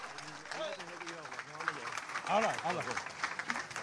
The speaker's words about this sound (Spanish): Fuertes los aplausos.